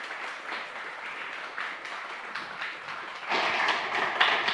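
An audience claps steadily in a dense, crackling wash of applause that swells louder toward the end, with no voices over it.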